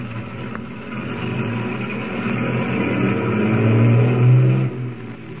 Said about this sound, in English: Saved from almost certain disaster, Tumbleweed's motorcade of tank trucks continues on its way to the Bear River Refinery.